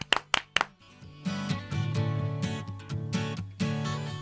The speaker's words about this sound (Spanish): Bueno, pues el aplauso del día. Venga, venga, vamos a darle el aplauso del día. Para República Dominicana.